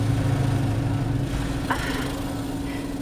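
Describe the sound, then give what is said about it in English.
A steady low engine idle hums inside a car wash, with a constant whirring, rushing wash noise around it and a brief squeak partway through. “Would you fuck me, like, so hard right now in this car wash?”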